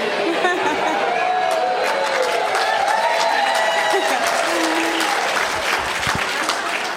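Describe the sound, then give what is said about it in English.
A crowd of fans claps and cheers in a dense, steady wash of applause, with voices whooping and shouting through it, holding loud and unbroken for the whole seven seconds. “I just thought I'd hear Oscar music or something like that, and, you know, my adoring fans screaming my name.”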